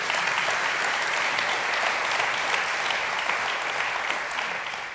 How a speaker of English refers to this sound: Real, yeah, go ahead and clap for that.